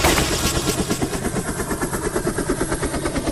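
A loud gunfire sound effect: rapid, rattling automatic bursts repeating steadily for several seconds, continuous, with a low rumbling undertone and no voices.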